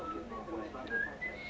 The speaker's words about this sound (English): Why can't women whistle? I don't know. I can sometimes. It's meant to be said to do their lip structure or something.